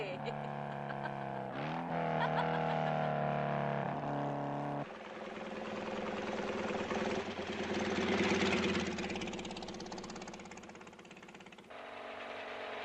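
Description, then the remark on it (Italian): A motorcycle engine runs loud, its tone shifting as it revs in steps, then giving way to a rougher, noisier roar that fades slightly before steadying again. “Ma da quando è che porti la motocicletta?”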